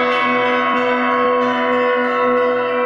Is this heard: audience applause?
no